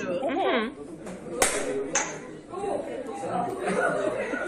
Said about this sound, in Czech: Hele, tak já zkusím, tak jestli natáčíš, tak já zkusím tlesknout, aby to bylo slyšet. Můžu?